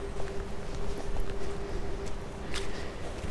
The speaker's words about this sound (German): Der pfeift richtig. Ja, der Wind pfeift im Turm.